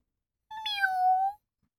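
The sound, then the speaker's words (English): A single clear cat meow, fairly loud, rising briefly then holding a long falling tone for just under a second before stopping, with silence around it. “Oh, and I've got 3 cats. They're very pretty. Meow. Meow.”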